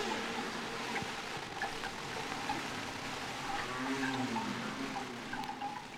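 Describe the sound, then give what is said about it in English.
Low, drawn-out whale calls from Henry the Hudson Whale moan and glide up and down over a steady watery wash, with a louder sweeping cry near the end. No one speaks. “And now we're joined by our friend Henry the Hudson Whale.”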